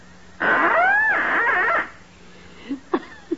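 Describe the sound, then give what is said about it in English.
A little duck call blown to sound the mating call of a female mallard, in one long, wavering, nasal tone that bends up and down in pitch, followed by a few short, faint squeaks after a pause. “I take this trusty little duck call, place it to my lips, and gently and sweetly, I sound the plaintive mating call of a lovesick lady mallard.”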